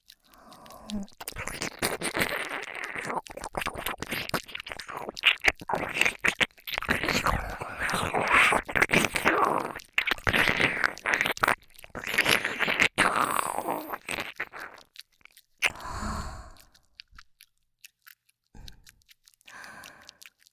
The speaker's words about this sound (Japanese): 少し舐め方を変えてみることにします。同じ刺激じゃお耳もおちんぽも飽きてしまうでしょうから、お耳をすするように。